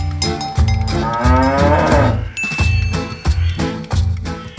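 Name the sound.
cow mooing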